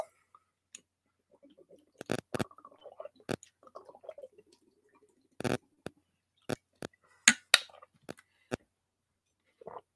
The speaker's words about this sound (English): Before I continue, let me just take a sip of water real quick so my mouth don't get dry.